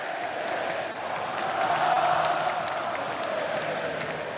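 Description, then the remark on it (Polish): A large crowd of Jagiellonia football fans roars and chants the name of coach Adrian Siemieniec in unison, a steady wall of massed voices with a sung melodic line running through it, loud and continuous throughout. “Adrian Siemieniec, krzyczą kibice, śpiewają kibice.”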